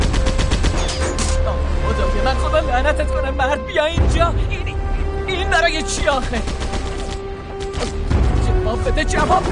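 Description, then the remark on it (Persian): Rapid bursts of gunfire crackle almost nonstop, with overlapping shots from people shooting at each other, loud, while voices and other noise mix in underneath. “دارم به هم تیراندازی میکنن.”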